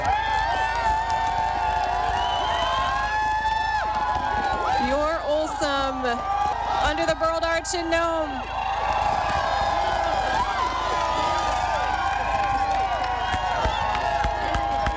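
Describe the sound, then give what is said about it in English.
A large outdoor crowd lining Front Street in Nome cheers and shouts steadily at the finish of a 1,000-mile sled dog race as the dog team enters the chute, with scattered clapping and whoops, while a man talks loudly over the noise. “The crowd is stretched all the way down the street, close to the state office building on Front Street in Nome.”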